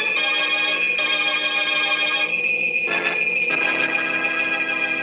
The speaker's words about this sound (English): I hear train bells.